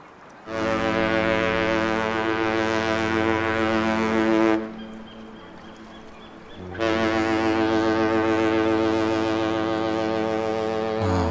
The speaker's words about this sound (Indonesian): Oh, iya ya. Kenapa banyak sekali kapal yang lalu lalang?